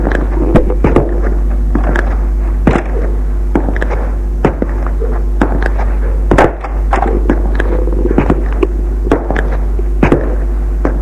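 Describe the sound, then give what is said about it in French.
A door being unlocked with a key and opened, heard as a series of sharp clicks and dull thunks scattered irregularly over a constant low hum, with no one speaking. “Ouvre la porte.”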